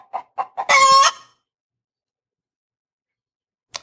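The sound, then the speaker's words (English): A chicken sound effect: three quick clucks lead into a loud, drawn-out squawk, then a long silence and one last faint cluck at the end. “That deserved a chicken, that clock.”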